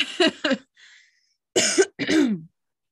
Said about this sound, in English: I can't stop yawning. Your voice is putting me to sleep.